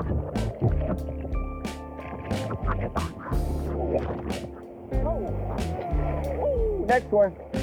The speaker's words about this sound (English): So, I just paddled out into the light.